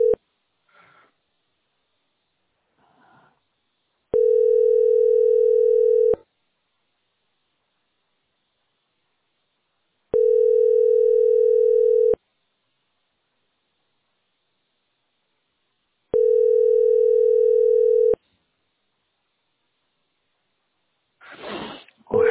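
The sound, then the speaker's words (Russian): A telephone ringback tone sounds three times, each a steady, mid-pitched hum about two seconds long with long silent gaps between, and no one answers. Faint sniffing or rustling comes at the start and end. “Хотя бы взяли трубку”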